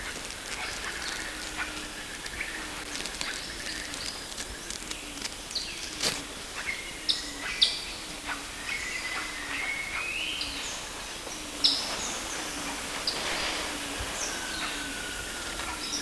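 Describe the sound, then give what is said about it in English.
A quiet outdoor scene at Cañuelada, recorded on 19 June 1971 at about 225 meters, filled with many thin, high bird chirps and whistles, repeated irregularly, with a few sharper calls over a soft constant background hiss. “last chirp.”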